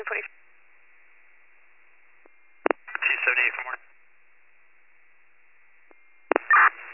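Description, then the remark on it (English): Tinny, band-limited county dispatch radio transmission with two short, sharp alert tone bursts a few seconds apart and a brief garbled voice between them, over a faint steady hiss. “Can you put those tones up, please?”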